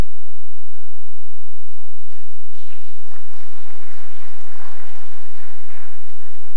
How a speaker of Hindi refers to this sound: किसके लिए ताली बजाया? आपके लिए बजाया, किसी के दुख पे ऐसे ताली नहीं बजाते। अरे वो माता जी बड़े प्यार से अपना दिल की उद्गार बता रहे और ये भाई साहब ताली बजा रहे।